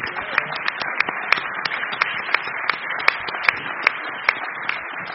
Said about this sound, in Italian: Il giorno 6 aprile del 2015 Rav Laras compie 80 anni, per cui vi chiedo un augurio e un applauso.